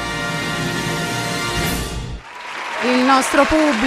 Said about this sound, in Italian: Il nostro pubblico che ti applaude.